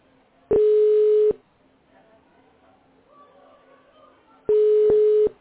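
Two steady telephone ringing tones, each just under a second long, sound about four seconds apart over a faint, low background murmur, as a call rings through to a clinic.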